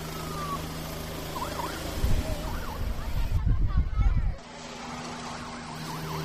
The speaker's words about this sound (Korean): 경찰 헬리콥터이기 때문에 더 기대감을 가지고 헬리콥터의 이륙 모습을 지켜보고 있습니다. 자, 이제 헬리콥터가 드디어 이륙을 하나요? 조종사들이 헬리콥터를 타고 하늘로 오르고 있습니다.